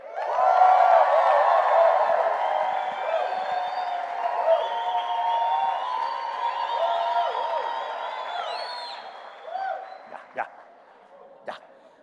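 A crowd of people shouts, whoops and applauds together in a loud, continuous din for several seconds, acting out a scene of shouting and praise on a count of three, then the noise quickly dies down to a few scattered cries.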